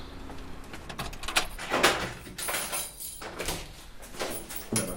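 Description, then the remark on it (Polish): Metallic clicks and rattles of a lock being worked as someone unlocks the door to a locksmith's workshop, followed by the door creaking and swinging open, with no talking. “To pójdę pierwszy, bo tu dobrze, jasne. Będę otwierał.”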